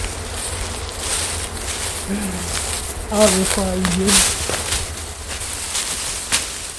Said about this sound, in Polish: Słuchajcie, są pszczoły.